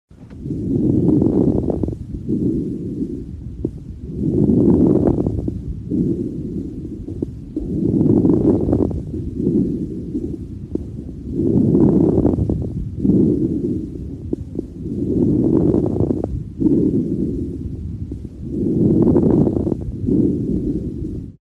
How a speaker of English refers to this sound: Listen now to a recording of end or late inspiratory crackles that could be associated with interstitial lung disease, pulmonary edema, or pneumonia.